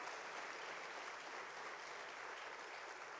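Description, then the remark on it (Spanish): A crowd claps loudly and steadily in applause to the Lord, a dense, continuous wash of many hands applauding together, with no voices standing out. “Dale fuerte ese aplauso al Señor.”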